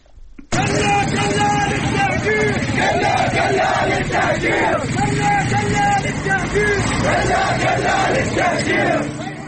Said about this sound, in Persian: برخی از ویدیوها هم نشون میده در شهر دارالخوین در جاده اهواز به آبادان اهالی محلی شعار میدن کلا کلال تهجیر، که معنیش اینه نه به کوچه اجباری. بشنویم با هم بخشی از این صدا رو.